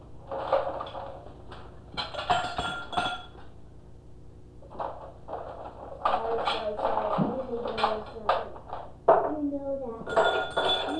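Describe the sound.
Drinking glasses clink and knock against a tabletop several times in scattered bursts, with people talking quietly in the background.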